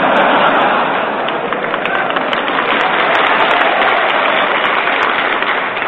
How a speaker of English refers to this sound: Only the winners applaud, you notice that?